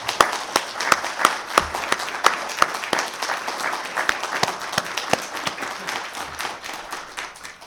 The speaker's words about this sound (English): But right now, we'd like to recognize all our veterans. If all our veterans could stand up. So let's give all our veterans a big round of applause.